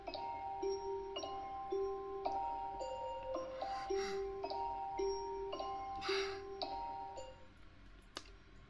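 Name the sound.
phone ringing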